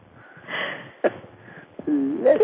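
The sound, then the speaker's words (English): A breathy intake builds to one sharp, abrupt sneeze burst, followed by a quieter pause and then a short, wavering voiced sound. “Excuse me, worldwide heard my sneeze.”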